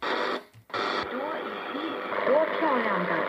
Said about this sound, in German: arbeitet er sich mit Daumen und Zeigefinger am Dreher durch die verschiedenen Frequenzbänder seines taschenbuchgroßen Empfängers